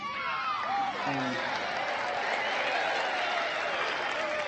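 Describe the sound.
A large crowd at a baseball game applauds steadily with scattered cheers and whoops as Brewster is about to address them, a dense wash of clapping that stays loud and constant throughout, with a few voices rising above it.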